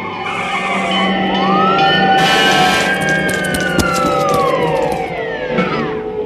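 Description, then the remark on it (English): A fire engine siren wails loudly as the fire brigade arrives, its tone sliding up and down in long sweeps over a rumbling engine and road noise, steady for the whole clip with no talking. “Soon, the fire brigade arrives.”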